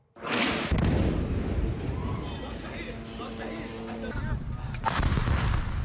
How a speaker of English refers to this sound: All right, you just watched two different attacks, two different explosions. Which one of those killings is terrorism, and which one isn't?